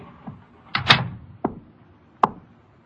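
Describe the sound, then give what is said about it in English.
An office door swings shut with a solid thud, then a couple of sharp latch clicks follow at uneven intervals, in a quiet room with no one talking. “Shut the door.”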